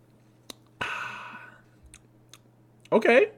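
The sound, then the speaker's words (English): A quick sip of a ginger-flavored drink with small lip clicks, followed by a breathy exhale that fades out and a short burst of voice at the end. “A quick, nice, fat sip”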